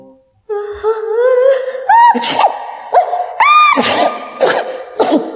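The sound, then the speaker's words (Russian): A voice acts out loud sneezing caused by a very strong smell of bright red flowers with yellow rims: a long, rising, wavering wind-up breath followed by several sharp, forceful sneeze bursts in quick, uneven succession. “Запах был до того сильный, что Яков стал громко чихать.”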